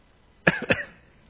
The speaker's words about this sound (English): Coughing if I need to.